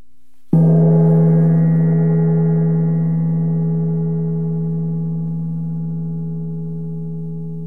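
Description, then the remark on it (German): Metal wind chime tubes, moved by the wind, clang together in one sudden strike, several clear tones ringing at once and then sustaining in a long, slowly fading shimmer with no voices. “Wenn Wind die Rohre bewegt, schlagen sie aneinander und dann erklingen ihre unterschiedlichen Töne gleichzeitig.”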